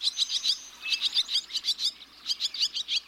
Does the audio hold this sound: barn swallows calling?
yes